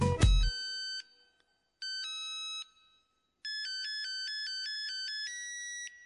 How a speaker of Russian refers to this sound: Вот звонит мобильник, и мне по делам.